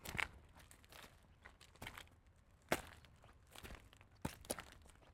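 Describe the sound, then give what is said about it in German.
Footsteps crunch softly along a wide forest path with soft, springy ground in the morning sun, a slow, irregular series of muffled steps with faint crinkling of leaves and twigs underfoot, fairly quiet. “Das Gehen auf dem breiten Waldweg ist sehr angenehm. Der Boden ist weich und lässt die Schritte federn.”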